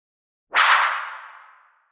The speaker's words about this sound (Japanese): あらあら、パーン。ビンタされちゃいましたね。